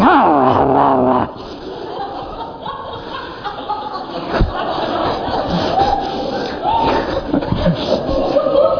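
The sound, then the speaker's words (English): A voice imitates a dog snarling and growling, opening with a short harsh howl-like cry and then settling into a rough, continuous growl that stays loud for several seconds. “Oh, thank God that dog is dead by now, I'm sure.”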